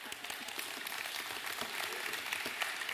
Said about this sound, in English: Youth is coming. Y'all clap for the youth.